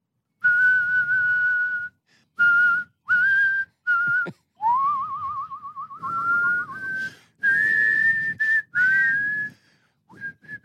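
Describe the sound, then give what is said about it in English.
A person whistles a tune, clear sustained notes in short phrases with brief pauses, one passage wavering in a rapid trill-like vibrato, with breathy low noise underneath. “Now, what's the deal with you and your whistling?”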